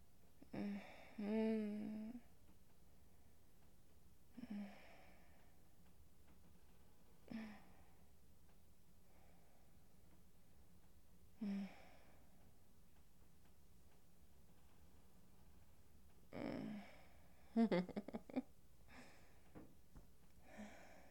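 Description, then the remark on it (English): Heavy breathing into the microphone: a series of deep, audible breaths and soft voiced sighs at irregular intervals, separated by quiet pauses, with a quicker cluster of breaths near the end. “Okay, you're probably sick of hearing me breathing, so I'm gonna stop recording now.”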